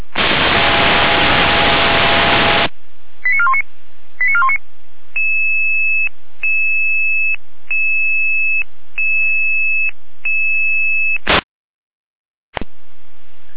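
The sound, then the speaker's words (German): Radio dispatch alarm tones from the Jena control centre: a burst of static, a few quick chirps, then a steady series of six repeating two-pitch tone pulses, loud and alone, ending with a sharp click and another static burst. “Jena mit Alarmierung.”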